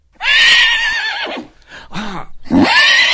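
A horse whinnies loudly, a long shrill neigh that trails off, followed by snorting breaths and a second rising whinny at the end.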